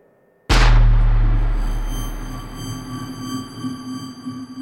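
A single loud gunshot, fired at a police officer during a traffic stop, cracks out of near silence, then trails into a long, rumbling low-pitched echo with a steady hum beneath it that slowly fades.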